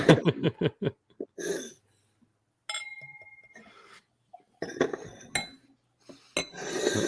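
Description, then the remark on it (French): Drinking glasses clink and knock together in a quick burst of sharp taps, then one bright clink rings out with a sustained glassy tone before more clattering and handling noises follow. “Et nous, on a pris nos plus beaux verres.”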